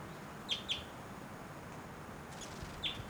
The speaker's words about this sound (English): Wild bird, that might be the male in the back, but those flight calls were the female.